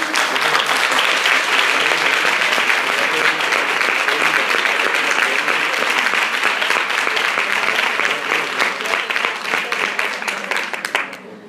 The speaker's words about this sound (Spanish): Por favor, un aplauso.